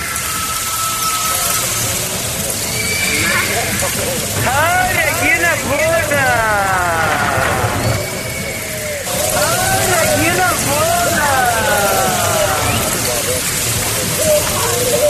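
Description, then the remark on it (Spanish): Steady rain hisses across a town street in Arandas, Jalisco, while a voice repeatedly shouts in Spanish over it, the downpour holding loud and constant for the whole stretch. “Paisaje sonoro de Arandas, Jalisco.”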